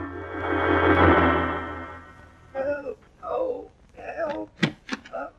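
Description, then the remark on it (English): A heavy carriage door, on a carriage standing in front of a museum, creaks open with a long, loud, drawn-out groan, then falls quiet as a voice begins moaning and groaning in short bursts. “Well, I found the carriage in front of the museum right enough, and when I opened the door to look inside, I heard a moaning and groaning.”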